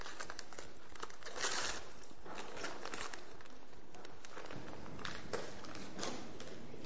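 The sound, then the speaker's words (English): Paper crinkles and rips in irregular bursts as a paper-wrapped parcel is unwrapped, moderately quiet, with rustling between louder tears and no talking. “What do you think might be in there? Can you unwrap that?”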